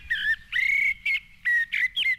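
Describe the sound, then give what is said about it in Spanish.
A common blackbird sings a series of about six clear, fluty whistled phrases separated by short pauses, fairly loud against a quiet background with no talking. “¿Esto es el mirlo? ¿El mirlito? Sí, y además que lo podéis oír no solo en zonas así como en Urdaibai, en el mismo Abando Ibarra tenéis criando mirlos”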